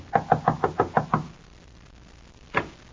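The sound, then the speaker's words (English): A rapid series of seven firm knocks on a door in an even rhythm, followed by a pause and then a single louder knock, with no one speaking. “Knock on the door”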